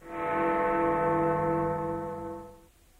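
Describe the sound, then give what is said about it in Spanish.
A single deep clock-tower bell stroke rings out loud, striking the half hour at 12:30, its rich tone sustaining for a couple of seconds before fading away, with no voices present. “es la campana. ¿No ves que ya son las 12:30?”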